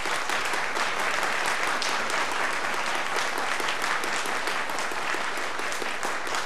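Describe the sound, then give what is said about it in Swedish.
Sustained, dense applause from an audience for the orchestra, a steady wash of many hands clapping at an even loudness throughout, with no voices standing out. “Ja, kära ni, den applåden var ni väl värda.”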